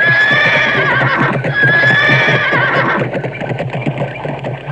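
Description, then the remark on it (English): A horse whinnies loudly, a long shrill neigh over the first three seconds, while hooves clip-clop steadily underneath and continue on their own as the call fades. “The carpet pulled the wicked uncle from his horse.”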